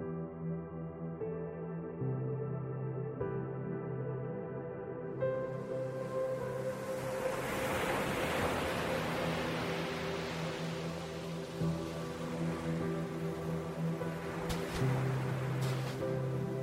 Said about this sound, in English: I walked along the soft white sand towards the rolling surf.